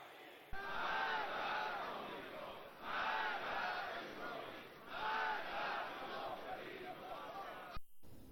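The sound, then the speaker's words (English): A large crowd of Iranian protesters chants loudly in unison at a rally denouncing the desecration of sanctities and acts of vandalism during riots. The shouted phrases rise in repeated surges roughly every two seconds over a constant roar of voices, then cut off abruptly. “Crowds of protesters rallied to denounce the desecration of sanctities as well as acts of vandalism during the riots.”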